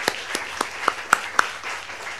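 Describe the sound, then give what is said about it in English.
Audience applause for Professor Carlin after his comments: a steady patter of crowd clapping with a few sharp, louder claps standing out at an even rhythm, moderately loud, then easing slightly toward the end. No one speaks. “So I'd like to give applause to Professor Carlin for his comments and hope to hear from him again.”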